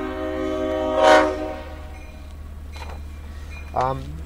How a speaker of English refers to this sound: Oh, the train's coming right in front of us. You might be able to hear the sound of the diesel there. Yeah, I'm sure you can hear that. That's a slow-moving train, about 3 miles an hour crossing the tracks.